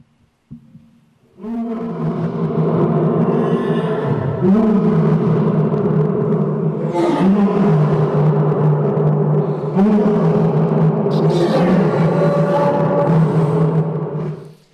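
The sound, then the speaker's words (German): A deep, sustained lion roar rumbles continuously for over twelve seconds, loud, with low throaty tones that swell and ebb in repeated surges; a lion roaring in the evening to mark its territory. “Bevor der Löwe abends schlafen geht, brüllt er in sein Revier.”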